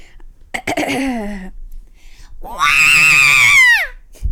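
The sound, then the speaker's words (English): A voice does an impression of the robot R2-D2 screaming: a sputtering, warbling burst followed by a long, loud, high-pitched wavering shriek that slides downward and cuts off, alone. “Do you guys want to hear my perfect impression of R2-D2 screaming?”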